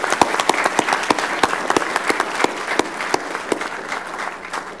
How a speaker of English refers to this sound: Together, these 17 residents have volunteered more than 98 years of community service to the city of Mesa, and some of them are now even serving on new boards. Let's give them all another round of applause.